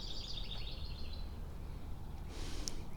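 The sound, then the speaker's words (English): Birds around an old dead tree, probably a cottonwood, chirp in a quick run of high, bright calls during the first second or so, then fade, leaving steady low outdoor rumble like wind; no one speaks. “There's a lot of birds hanging around.”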